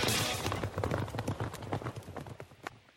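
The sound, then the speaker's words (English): Rapid, thundering hoofbeats of horses galloping, a dense rumbling rhythm of many hooves pounding, loud and steady with no voices. “We specialize in thundering hooves, fist pumping, and boosting your bankroll with robust weekly promotions”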